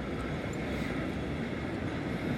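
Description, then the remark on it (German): An S-Bahn commuter train rumbles by as a steady, broad roar with a low mechanical drone, holding constant loudness throughout with no voices. “Ja, und immer wenn man den Wind hören will, kommt natürlich eine S-Bahn.”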